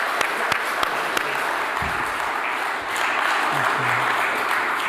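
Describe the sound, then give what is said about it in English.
An audience applauds steadily for a speaker invited up to speak, a dense wash of many hands clapping at an even loudness with a few sharper individual claps standing out near the start. “Would you like to give him a round of applause?”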